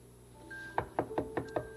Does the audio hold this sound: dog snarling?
no